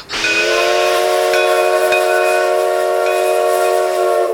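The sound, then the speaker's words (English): A steam train whistle blows one long, loud, unbroken blast as the train gets moving, its bright chord-like tone held steady for several seconds over a rushing hiss of steam, with no voices. “Let's get this train moving!”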